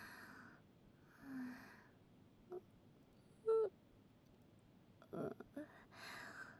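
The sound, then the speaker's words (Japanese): A few soft, breathy yawns, one with a brief low voiced tone in the middle, separated by quiet pauses and faint airy exhales. No talking. “やば、あくび止まんない。”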